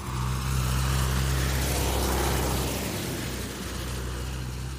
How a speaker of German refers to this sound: Und dann fährt der Bauer mit dem Traktor wieder nach Hause.